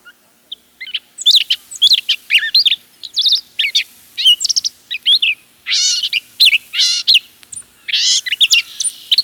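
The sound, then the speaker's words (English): A songbird sings a rambling, jumbled stream of varied chirps, whistles and buzzy phrases strung together, each note different from the last, fairly loud with brief pauses between bursts and no talking. “They string all the sounds together in a jumble to produce their song.”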